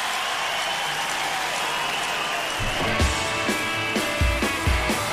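A steady wash of crowd applause fills the opening seconds, then a band kicks in halfway through with thumping drums and guitar notes while the clapping continues underneath.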